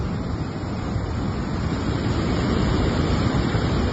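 Stormy sea surf during a sea storm, with waves over 4 metres high striking beaches on the Castellón coast, roars in a steady, dense wash of noise, rough and constant, with no clear separate wave crashes and no voices.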